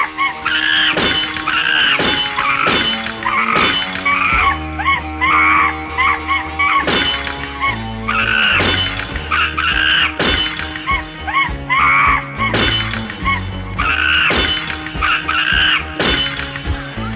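Loud, harsh screaming runs almost nonstop while objects are smashed, with repeated crashes and shattering breaks punching through in an uneven rhythm across the whole stretch.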